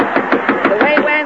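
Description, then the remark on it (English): A quick, steady run of about seven knocks on a door, fairly loud, with a faint voice murmuring underneath. “Say, somebody's at the door.”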